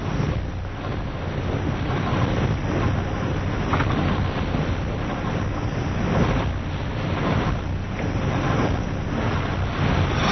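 Continuous rushing water with waves surging and splashing in repeated swells, fairly loud, with a wind-like roar underneath and no voices.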